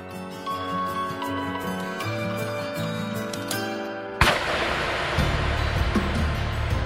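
Music plays for a few seconds, then a single sharp, loud gunshot cracks out and leaves a long, rumbling noisy tail beneath the fading tune.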